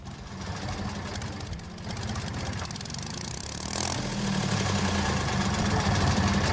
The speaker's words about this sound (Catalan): No, això és un tractor. Un tractor.